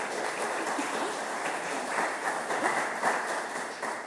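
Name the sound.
audience applause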